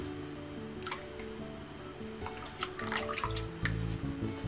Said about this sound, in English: get a mixing bowl and add 600 mils of pouring cream or pure cream, like this.